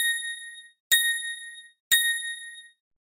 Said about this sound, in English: Hi, it's …. At the third bell, the time will be 7 o'clock precisely.